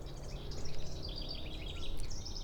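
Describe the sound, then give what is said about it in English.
A busy chorus of many happy birds chirping and singing at once around an old dead tree on a Thursday, with overlapping trills and tweets over a low, steady outdoor hum. “I can hear a lot of birds. They're all very happy.”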